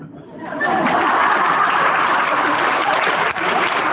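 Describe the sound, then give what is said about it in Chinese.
An audience breaks into steady applause on its own before the speaker has said anything, many hands clapping in a dense, even wash that swells within the first half second and holds loud throughout, with a few faint chuckles mixed in. “我没讲话，就你们自己鼓掌啊，对不对啊？”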